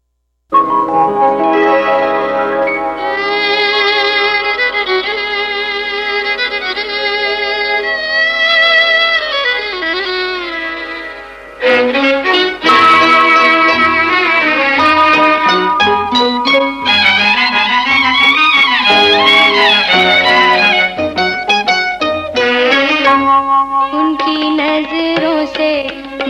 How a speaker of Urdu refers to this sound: چلیے گانا سنیں آپ